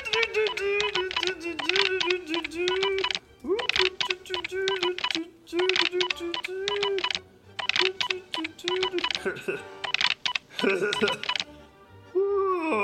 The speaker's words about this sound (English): As soon as Mr. Chief Science Nerd left the room, Blob ran over to the machine and began tapping the keys.